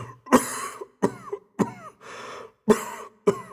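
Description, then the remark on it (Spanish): A person coughs repeatedly in a harsh fit in a cave, about five or six forceful bursts with short gasping pauses between them, no speech. “¿Hace mucho tiempo que tiene usted esa tos?”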